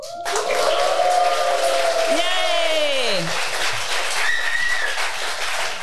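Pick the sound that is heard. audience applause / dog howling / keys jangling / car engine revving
audience applause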